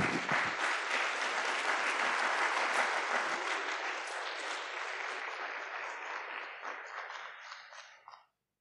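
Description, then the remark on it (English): An audience at a school poetry slam breaks into a sustained round of applause for the primary winners, dense crackling claps filling about eight seconds, holding strong before gradually thinning and fading out at the end. “Okay, one big final round of applause for our primary winners.”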